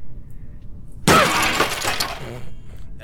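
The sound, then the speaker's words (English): A table breaks with one sudden, loud crash, a bright splintering burst that rattles and crackles for a second or so before fading, with no voices over it. “So if I break this table, you're going to immediately fall asleep and dream a dream?”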